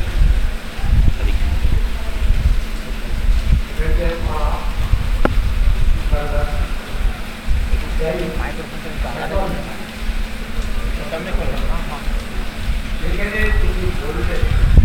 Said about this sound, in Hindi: यहाँ यशड़ा चाकदा में बड़ी जोर के बारिश हो रही है और ऐसे लग रहा है कि हाथी के सूंड जितना धारा बढ़ रहा है।